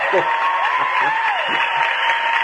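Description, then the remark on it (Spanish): Steady, dense clapping from a group fills the whole stretch at an even level, with faint voices rising through the noise. “¿Cuántos aplausos?”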